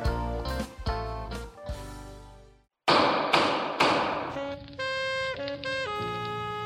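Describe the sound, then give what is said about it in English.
Loud thumps and taps land in uneven bursts, some leaving metallic ringing tones, with a brief pause partway through, as Judge Hodgman repairs a hover chair. “Man, Judge Hodgman, you're really getting in there on repairing that, what's that called? Hover chair.”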